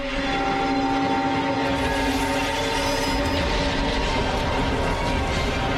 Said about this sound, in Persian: نه قطار، برو.